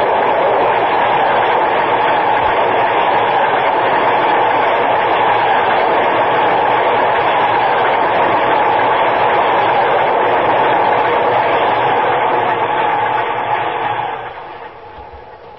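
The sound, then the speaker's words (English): A loud, steady roar of a downtown express train rushing past on the tracks, dense rumbling and rattling noise held for about fourteen seconds before quickly fading away. “Get out of the way. Watch the train.”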